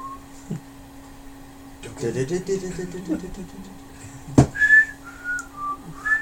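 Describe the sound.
Someone attempts to whistle a TV show theme tune, producing a few short, wavering whistled notes after some low vocal humming and a sharp click.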